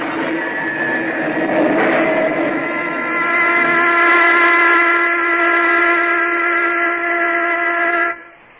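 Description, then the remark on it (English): A factory whistle blows one long, steady, loud blast for about eight seconds, with a rich stack of sustained harmonic tones, then cuts off abruptly. No voices are present. “And even the pilgrims might easily have learned to enjoy that last sound, strange as it would have been to their ears, the factory whistle.”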